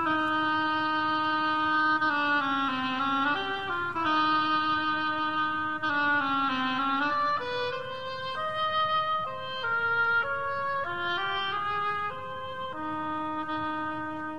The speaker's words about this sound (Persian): حالا این اوبوا چطور؟